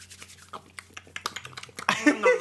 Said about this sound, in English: We should definitely eat this note. Oh. To destroy it. We should eat this note. Yeah. That's a good idea.